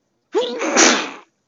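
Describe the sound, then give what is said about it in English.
A single loud sneeze with a sharp voiced intake at the start bursting into a broad, breathy blast that fades out within about a second, alone against silence. “Bless you.”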